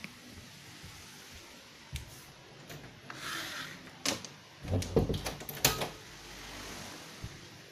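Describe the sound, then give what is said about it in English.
A door swings and clunks shut, with a cluster of sharp knocks and rattles as it's closed, followed by quiet room tone. “I'm just going to close the door.”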